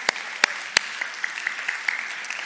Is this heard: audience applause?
yes